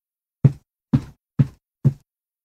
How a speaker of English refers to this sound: We can clap. We can stamp too.